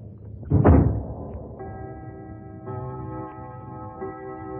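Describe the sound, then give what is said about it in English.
A study door shuts with a single solid thud as a person leaves the room, followed by sustained, steady musical tones that hum on quietly to the end. “I put it on, lit a candle, left my study.”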